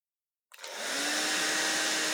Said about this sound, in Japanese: ドライヤーの温度暑かったら言ってね。